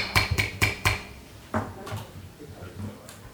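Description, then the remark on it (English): A gavel bangs four times in a quick, even rhythm, with sharp wooden knocks, followed by a softer single knock and faint low murmuring, opening a Manasquan School District Board of Education public meeting on October 13th, 2020. “Yeah, bang that gavel.”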